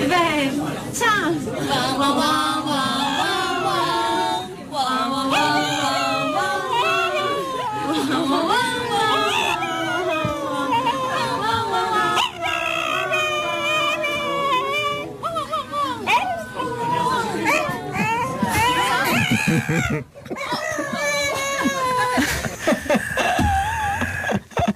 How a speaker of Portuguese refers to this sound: Segundo a dona do cão, ele canta os parabéns a você.